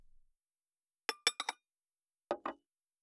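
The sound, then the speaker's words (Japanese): Dishes clink together as they are gathered up: a quick run of four bright, ringing knocks, a pause, then two softer, lower clatters. No voices. “あ、食器の後片付けは私がやりますよ。”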